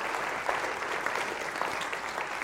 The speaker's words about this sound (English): Can we just give Alan a huge round of applause?